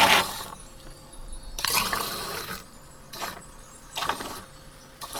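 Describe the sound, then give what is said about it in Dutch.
Sparkling water is poured in several short bursts into glasses holding an orange bubbly drink, with a bright fizzing hiss and faint glassy clinks between pours, with no talking. “En wat komt er nu nog bij? Spuitwater. Spuitwater.”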